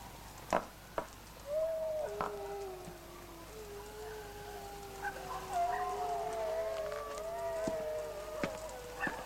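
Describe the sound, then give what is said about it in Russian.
A cold north wind howls with long, wavering moaning tones that slowly rise and fall, steady and moderately loud, broken by a few sharp knocks and clicks. No one speaks. “Полуночник воет. Похоже, вьюга налетит.”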